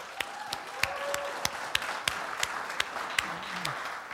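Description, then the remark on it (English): A church audience applauds steadily for military families, a dense wash of many hands clapping, with several sharper, louder claps standing out at regular intervals. Faint voices murmur underneath. “Can we give a round of applause to our military families?”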